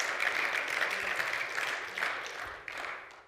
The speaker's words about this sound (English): It's I'm going to keep clapping my hands. I'm going to keep worshiping and living according to the book.